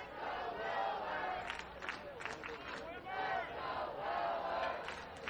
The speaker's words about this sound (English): The chant of Let's Go Wilbur arises from the crowd here at HML Ballpark.